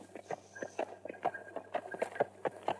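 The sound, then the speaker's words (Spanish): Horses trotting, their hooves striking in a quick, steady clip-clop rhythm, with no voices heard, pulling a stagecoach along a dusty road toward the mountains. “Esther fue introducida en un carruaje de diligencia que salió con los caballos al trote por un camino polvoriento”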